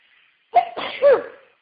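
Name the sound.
sneeze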